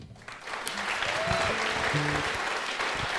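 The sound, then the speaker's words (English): An audience on a show claps steadily for a band as its fiddle player is introduced. The applause swells in quickly and holds at a full, dense level, with a few faint voices and stray tones mixed into the noise. “They usually don't clap for him.”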